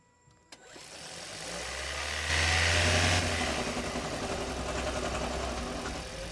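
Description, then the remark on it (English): The internal combustion engine of a Toyota Hybrid car starts up and runs with a steady rattling, clattering idle. The racket swells briefly midway, then settles back into a continuous mechanical drone, with no voices. “Toyota Hybrid engine rattling noise.”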